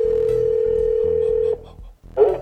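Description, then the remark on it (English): A steady electronic ringback tone from an outgoing cell phone call placed by Oprah Winfrey, campaigning for Joe Biden and Kamala Harris, holds for about a second and a half over a soft rhythmic background, then cuts off before a brief clattering burst. “She's calling folk on their cell phones.”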